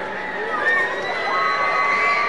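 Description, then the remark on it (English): A baseball stadium crowd at Hodgetown in Amarillo, Texas, roars steadily during a Texas League game tied in the bottom of the ninth, a dense wash of cheering and shouting voices with some higher whistling tones sliding through, loud and sustained for a couple of seconds. “The crowd getting loud here in Hodgetown in Amarillo, Texas.”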